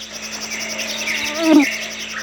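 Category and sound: bird, early morning birdsong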